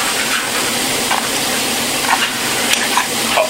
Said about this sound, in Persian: پیاز هم نرم شده، قاشق میزنم بهش، پیاز نرم.